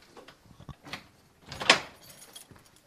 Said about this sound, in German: Also man hört hier, wird gerade alles zugemacht. Gleich wird die Tür abgeschlossen.